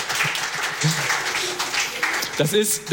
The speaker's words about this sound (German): Schön, da kann man mal klatschen. Endlich ist es vorbei.